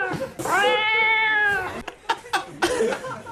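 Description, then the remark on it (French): A person imitates a cat, pretending to be the neighbour's cat stuck on a branch, with one long, drawn-out wavering meow, loud, followed by a few short breathy vocal bursts that sound like chuckles. “Je suis coincé. Je suis coincé sur la branche. Venez me chercher. Je suis le chat de la voisine.”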